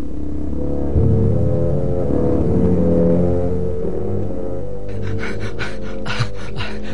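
Heavy, rapid panting breaths, about five harsh gasps in quick rhythm, come in near the end over a low droning musical background, fairly loud, like someone badly out of breath.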